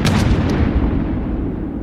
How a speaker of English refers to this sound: Dawn becomes bright as midday for an instant before it is swallowed by black smoke. In the words of one who was there, it is as if the jaws of hell have opened. The peaceful fields are torn apart by exploding bombs and shells.